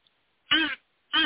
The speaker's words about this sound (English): My crow call. Oh, good Lord. Crow caller. Does it sound like a crow? No, it sounds like a baby duck. Sounds like a sick baby duck. Okay. No way. It's not a crow. What made you think that was a crow?